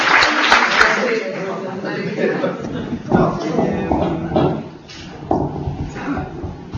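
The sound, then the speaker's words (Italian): A burst of audience applause fills the opening seconds, then thins out and fades as a voice begins speaking over the lingering claps. “Facciamo un applauso a Lorenzo e cominciamo subito”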